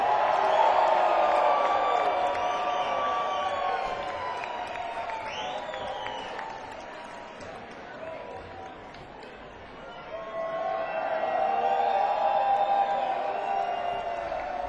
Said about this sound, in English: Would you please give them a nice round of applause here at WNCW's Christmas Pre-Jam? Please give it up for the best damn band on the planet,